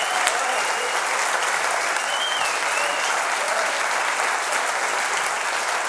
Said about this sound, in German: Applaus! Ja, Applaus! Toll! Toll!